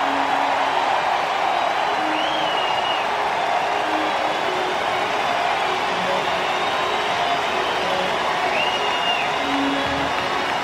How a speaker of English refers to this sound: Standing ovation from 39,823. Kimbrel jogging to the mound. That's pretty cool. It's a good ovation. It's understanding the moment.